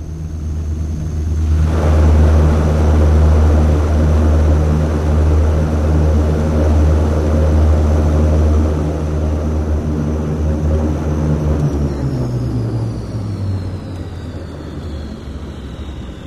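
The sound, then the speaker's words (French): A propeller airplane drones loudly with a steady, throbbing engine roar, then its pitch slides down as it slows after touching down on ice in snowy Yakutia. “Notre avion atterrit sur la glace et je suis envoûté par cette lumière tellement pure et réelle, et par ce ciel bleu profond.”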